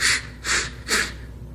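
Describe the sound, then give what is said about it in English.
A voice imitates blowing up a balloon with three short, breathy puffs of air in a steady rhythm, fairly loud, with no talking. “You take a balloon, you blow into it, what sound do you get?”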